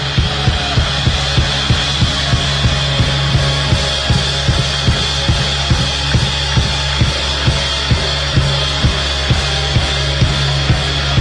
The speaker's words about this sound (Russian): Давайте воздадим еще раз Богу славу. И поблагодарим и аплодисменты пастору Андрею.